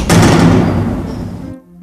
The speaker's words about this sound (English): Let me try banging on the door again. Hello? Hello? Let me bang louder.